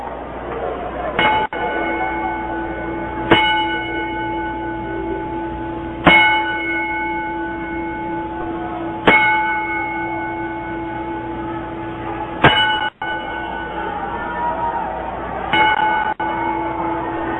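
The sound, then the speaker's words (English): A ringing bell tolls slowly in a 10-bell salute for professional wrestler Larry Sweeney, six loud, clear strikes spaced a few seconds apart, each leaving a long shimmering decay that fades before the next, with no voices. “We'll start with a 10-bell salute in the name of Mr.”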